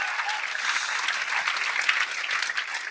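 A crowd claps steadily and enthusiastically, a dense wash of many hands filling the room at a fairly loud level, continuing without a break and with no voices clearly heard.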